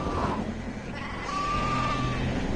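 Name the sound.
sheep bleating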